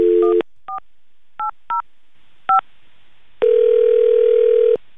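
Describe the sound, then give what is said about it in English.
A telephone number dialed live on a Camel Country 107.9 morning radio show in Phoenix: a string of short, separate touch-tone beeps in an uneven rhythm, followed by a long, steady tone. No voices are heard. “Let's call Austin.”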